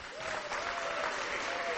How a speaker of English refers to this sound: I'm sure we can give him a better cheer than that, can't we?